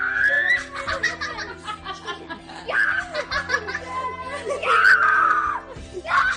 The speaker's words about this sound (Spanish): Grita él y grita su hermano en las escaleras de casa.